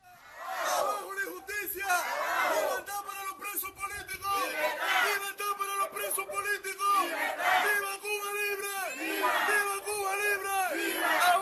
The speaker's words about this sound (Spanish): No hace mucho era impensable que gritos como estos se escucharan tan alto y durante tanto tiempo en una manifestación por alguna calle de Cuba.